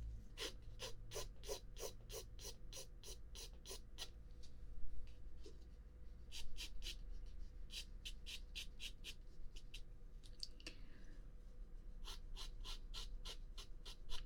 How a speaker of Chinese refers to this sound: 像画这种亮部呢，你可以把你的炭笔削得再尖一点，而且炭笔在纸上滑动的时候要轻，就像羽毛拂过一样。